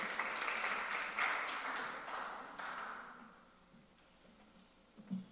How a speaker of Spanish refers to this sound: Pido un aplauso al Señor por la vida de nuestro querido amado pastor.